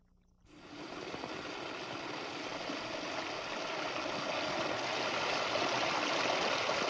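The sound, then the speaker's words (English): Three streams of water pour steadily into three trash barrels fitted with three electrodes, each connected to the adjacent barrel, making a continuous splashing rush that begins abruptly after a brief quiet moment and swells slightly louder over time, with no voices. “Three streams, three trash barrels, and three electrodes, each connected to the adjacent barrel.”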